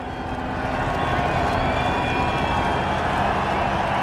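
A large race crowd in Canada roars and cheers for Jean Alesi's Ferrari win at the podium, in a dense, continuous wall of noise that stays loud and steady throughout, with no clear voices standing out.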